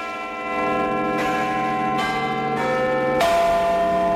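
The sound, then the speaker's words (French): Big Ben's clock bells in London, the clock of the House of Commons, chime in a slow sequence of about five struck notes, each ringing out richly and overlapping the last, with no voices. The clock is back in service after about four years of near-silence for works. “Vous reconnaissez peut-être ce tintement caractéristique, c'est celui de Big Ben, monument emblématique londonien.”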